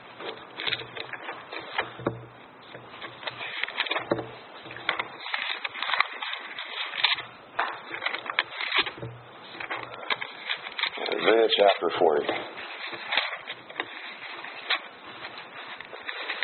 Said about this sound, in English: You hear those Bible pages turning? Isaiah chapter 40, and then Matthew chapter 3.